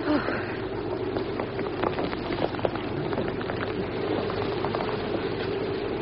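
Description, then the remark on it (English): A steady, loud rush of wind pours in without pause through a door opened onto a yard on a misty evening, a broad hissing roar with scattered light crackles and taps running through it for the whole stretch. “Oh, blast the wind.”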